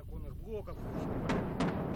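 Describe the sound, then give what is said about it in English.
Outgoing artillery fired by Donbas separatists: two sharp, booming reports about a third of a second apart, following a brief stretch of speech, over a steady low background rumble. “The janitor cleans up the glass from the shattered windows to the sound of outgoing artillery fired by the Donbas separatists.”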